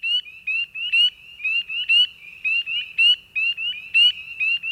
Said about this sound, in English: Take a few moments to quietly listen and experience this setting. What do you feel? What do you hear? Depending on the season, you might hear the sound of spring peepers.